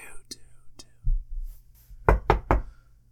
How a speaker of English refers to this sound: Oh, hello. Why are you knocking on my table? I just wanted to get your attention.